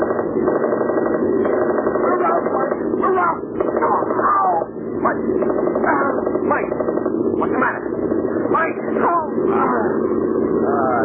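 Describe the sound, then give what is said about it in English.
A truck engine runs steadily and loudly throughout, a continuous rumbling drone with a rattling edge, while indistinct voices break in now and then over the noise. “Hey, get off this truck.”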